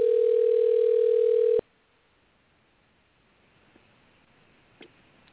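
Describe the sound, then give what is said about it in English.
A loud, steady telephone dial tone as a call is placed, humming for about a second and a half, then cutting off abruptly, leaving faint line hiss with a couple of tiny clicks. “and I just called him to see if we could text him, rather, to see if we could call him and pray for him.”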